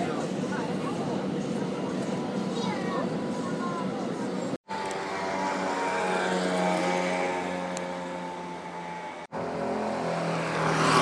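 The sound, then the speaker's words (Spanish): A bus engine drones steadily as it climbs uphill toward Taormina, a loud, straining hum with rising and falling tones, broken by two brief cuts. “Y creo que llevamos andados como 2 kilómetros por lo menos, así que, y subiendo, así que, vamos, que he hecho bien en coger el autobús.”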